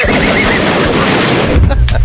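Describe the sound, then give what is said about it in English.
A loud gunshot sound effect: a dense, harsh burst of crackling noise that holds steady for about two seconds, with a couple of sharper cracks near the end. “Me being shot off my high horse?”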